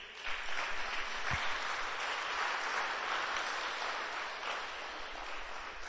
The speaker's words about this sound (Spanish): Damos un aplauso a Dios.